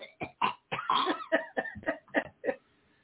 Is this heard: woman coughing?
yes